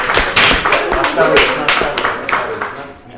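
An audience breaks into applause to welcome a performer from the town of Pushkin, a dense, steady patter of many hands clapping at a loud level for about three seconds, easing off slightly toward the end.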